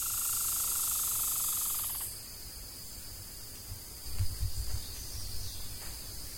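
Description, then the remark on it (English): Crickets chirp in a steady, continuous high trill across an outdoor night scene, with a denser hiss of insects at first and a few soft low rumbles midway. “Birds only make sounds at certain parts of the morning, while crickets only come out in the evening.”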